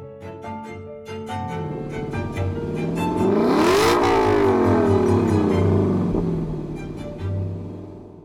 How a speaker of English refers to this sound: I can only imagine how satisfying it would be to be in a car that as it revs up and gets faster is making these perfectly pleasing intervals that everyone wants to listen to.